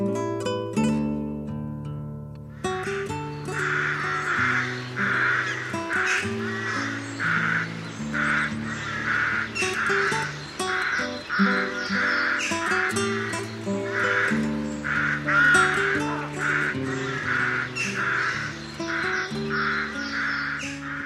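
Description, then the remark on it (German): A rook caws over and over in harsh, rasping calls, a steady run of loud caws lasting the whole stretch, with soft sustained music playing underneath. “Das war die Saatkrähe.”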